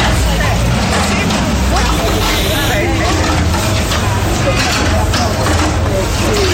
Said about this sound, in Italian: Quelli che sentite in sottofondo sono i lavori che stanno interessando il mercato di Sant'Ambrogio.